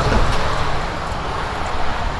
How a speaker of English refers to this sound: Had a request from a guy to get the sound of a train.